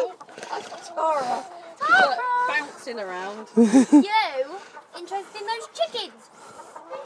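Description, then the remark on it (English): Chickens cluck in a steady, warbling series of calls, moderately loud, with voices talking now and then over the clucking. “Interested in those chickens?”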